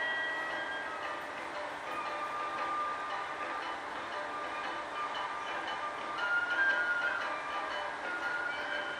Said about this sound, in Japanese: 2番乗り場に列車が参ります。危険ですから白線の内側にお下がりください。